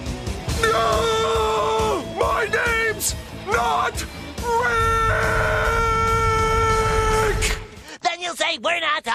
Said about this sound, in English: Victory Screech!